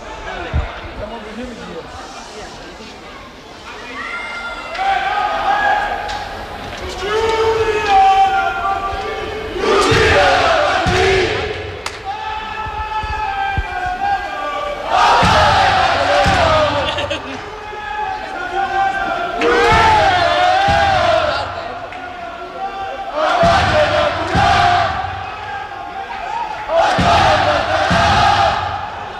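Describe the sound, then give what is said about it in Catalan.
Hockey Olot fans at the Josep Jou rink in Olot chant their battle cry in unison at the end of a match, a 6-2 win over Lloret, voices swelling in repeated loud bursts punctuated by sharp claps or stomps, with a brief quieter lull between chants. “Si us sembla, escoltem el crit de guerra del final del partit de l'hoquei Olot, perquè és d'allò més curiós.”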